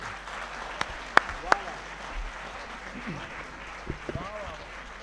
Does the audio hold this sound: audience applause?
yes